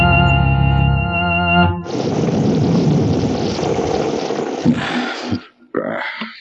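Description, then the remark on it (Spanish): A sustained low musical chord gives way to a loud, rumbling roar of a thunderstorm over the jungle of an island that rolls on for several seconds, fades briefly, then bursts again. “El astuto Gasil observa a través de los ventanales la tormenta que se abate sobre la selva.”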